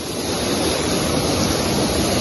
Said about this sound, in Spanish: Y con esta fuerza que escuchamos, baja el río en Sayalonga, en Málaga, el río en el que efectivos de la Guardia Civil están buscando a una mujer de 30 años que cayó al agua intentando salvar a su perro.